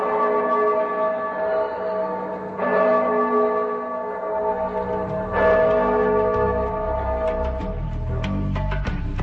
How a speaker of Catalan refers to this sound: Al cap d'una estona va arribar la llum de l'alba i es van sentir com les campanes tocaven a morts.